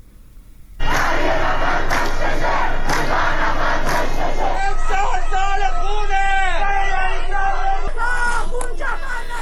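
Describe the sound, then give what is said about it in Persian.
A large crowd of citizens gathered in front of Rajaei Shahr prison in Karaj, Iran bursts into loud, continuous shouting. It is a dense roar of many voices, with higher rising and falling yells and chant-like cries standing out through the second half. “در پی این هشدارها تعدادی از شهروندان در مقابل زندان رجایی شهر تجمع کردند.”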